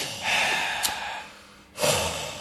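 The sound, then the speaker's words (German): Someone demonstratively breathes out heavily through the nose in a long, loud, annoyed huff, then a second forceful snorting breath follows, with no talking. “Und dann so schwer atmen.”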